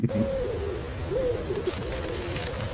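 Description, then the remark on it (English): Someone imitates a seagull, producing a few wavering, rising-and-falling wailing calls in quick succession. The voice is moderately loud, with no speech around it. “At this point, there were less seagulls and more flying monkeys.”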